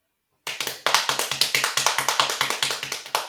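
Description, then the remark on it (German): Rapid, energetic knocking or tapping on a hard surface, a dense run of about twenty sharp strikes in quick rhythm, fairly loud, with no voices. “Jetzt habe ich sehr leidenschaftlich war das gerade, das Klopfen.”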